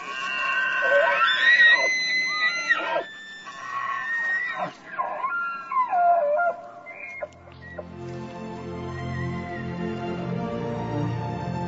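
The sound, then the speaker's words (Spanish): Deer bugling during the rut: several loud, high whistling calls that rise and fall in sweeping squeals, followed by a lower, steady harmonic drone with no talking. “Mientras que los alces ganan peso para el invierno, los ciervos anuncian que su propio celo ha llegado.”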